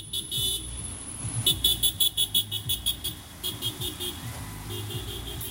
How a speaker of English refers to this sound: And even members of Chicago SJP have come to campus to participate in rallies, and people are driving by constantly honking and waving, which I think is keeping morale up for demonstrators.